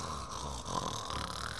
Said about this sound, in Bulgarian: Върху каменното легло лежал старец, безсмъртният дух на бялата земя. Спял старецът и хъркал, да чак небето цепи.